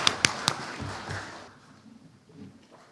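Applause from a church audience welcoming new members into the Nõmme Rahu audience: it starts with a few sharp, loud claps, then spreads into a brief scattered patter that fades out after about a second and a half, leaving quieter low murmuring.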